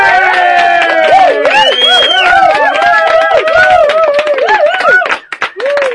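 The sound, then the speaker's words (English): Loud, dense applause sound effect played on a programme, a steady crackle of many hands clapping, overlaid with warbling, swooping tonal calls before fading out in the last second. “Quick, send for some applause and hopefully we'll get rid of the duck now.”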